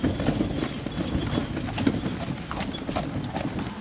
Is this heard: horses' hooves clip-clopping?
yes